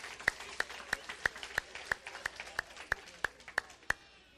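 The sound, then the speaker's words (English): Steady, rhythmic clapping, about a dozen sharp claps in even succession over a murmuring background, like an audience clapping in unison. “Come on, give yourselves a big round of applause.”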